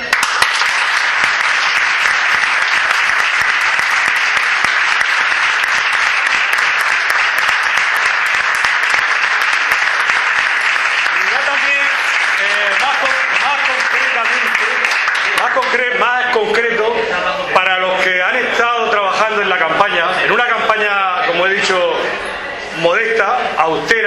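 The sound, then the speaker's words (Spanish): A large crowd applauds loudly for the young people who worked on a campaign, a dense, steady clapping that fills the first half, then thins as someone starts speaking over the fading applause. “Para esa gente, yo pediría esta noche un aplauso fuerte.”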